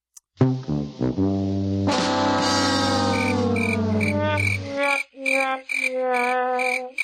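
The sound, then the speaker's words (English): A loud cricket chirping sound effect plays on its own, with buzzy, electronic-sounding tonal chirps that shift in pitch, then break into a few shorter repeated chirps near the end. “Well, in fairness, now the cricket should go to Scott.”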